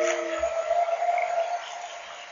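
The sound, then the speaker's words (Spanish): A whale call rings out as a long, steady moaning tone that holds for over a second, then fades, with a couple of soft low thuds near the start. “Fue la gran ballena sorda que acabó con la función.”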